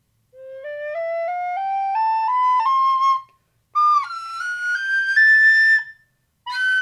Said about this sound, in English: The soprano recorders are the highest pitch instruments in the Plastic Orchestra, with a range of a little over 2 octaves, ranging from C5 at its lowest, up to a few tones above C7.